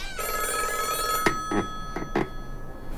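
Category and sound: household object, old rotary telephone ringing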